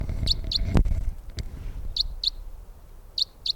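Crossbill flight calls of type 306 from a female crossbill flying in and overhead: three pairs of sharp, high chips, spaced apart, over a low background rumble, with a single loud thump near the start.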